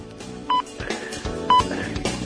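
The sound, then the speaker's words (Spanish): Two short, clear hourly time-signal beeps on Radio Federal 101.5 mark 11 o'clock, sounding exactly one second apart as steady mid-pitched pips over a low, busy background rumble with scattered clicks and no talking. “ahí con el top, ahí está, mire, ¿eh?”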